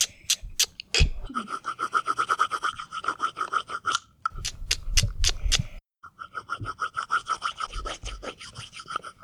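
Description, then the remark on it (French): An ornithologist carves a piece of wood into a duck call meant to imitate a duck's cry, heard as a rapid series of rasping, scraping strokes in a steady rhythm, briefly interrupted partway through before the filing resumes. No one speaks. “L'ornithologue choisit un morceau de bois et sculpte la peau qui imitera son cri.”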